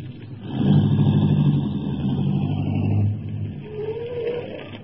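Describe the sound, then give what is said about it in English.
A car engine rumbles steadily as the vehicle drives into a small, decrepit wayside garage called Mike's Place, a few miles south of Detroit. Its low droning tone eases off after a few seconds into a quieter idle. No one speaks. “Then, a few miles south of Detroit, Graco directed me to turn into a small and decrepit wayside garage called Mike's Place. Drive right inside.”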